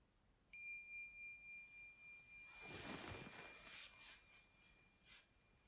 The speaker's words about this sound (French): Prochain son de cloche, nous allons nous lever.